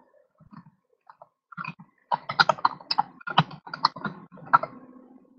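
Keyboard typing as a note is written down: a few scattered keystrokes at first, then a quicker burst of clacking keys tapping along in an uneven rhythm, with no voices.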